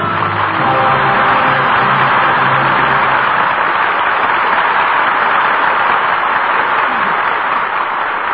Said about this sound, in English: Your applause gives proper salute to three fine performances. And now Charles Boyer, Paulette Goddard, and Susan Hayward return to the footlights.